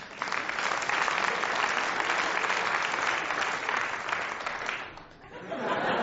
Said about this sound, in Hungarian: Hölgyeim és uraim, a színpadon a jósok jósa, a híres nevezetes Handala Bandala Mandala Kobayashi Kum. Tapsot neki!